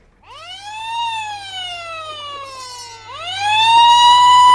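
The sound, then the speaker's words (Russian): A loud wailing alarm-system siren rises sharply, slowly falls over a couple of seconds, then swoops up again and holds high and strong, with a low steady hum underneath. “Что случилось? Тревога? Отставить!”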